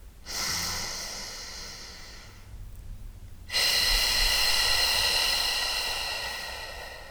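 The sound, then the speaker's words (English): A long, airy breath drawn in, a brief pause, then a louder, rushing exhale through pursed lips that slowly fades. No one speaks. “Inhale. Exhale. Try it again.”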